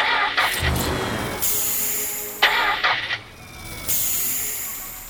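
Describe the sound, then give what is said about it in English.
A car engine cranks in repeated grinding bursts, sputtering and stopping without catching, fairly loud, with no one speaking. “But the car doesn't go.”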